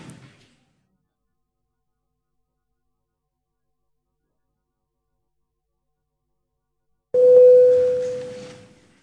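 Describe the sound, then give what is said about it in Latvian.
After a long stretch of silence, a single parliamentary voting bell tone rings out as deputies are called to vote on a proposal, a steady mid-pitched chime that starts loud and fades away over about two seconds, with no talking. “Lūdzu zvanu.”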